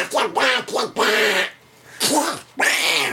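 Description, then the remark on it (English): A voice does a raspy Donald Duck-style cartoon-duck impression, called a 'Hitler Donald Duck', a run of quick quacking bursts, then two more squawking phrases after a brief pause, fairly loud. “Oh no, I think Hitler just arrived. Mm-mm. Hitler Donald Duck?”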